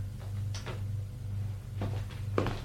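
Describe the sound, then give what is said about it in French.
A door slides shut after a secretary presses a button to close it, with a few short mechanical clunks and rattles spread over a couple of seconds, set against a steady low motor hum, moderately loud. “La secrétaire appuie sur le bouton pour refermer la porte.”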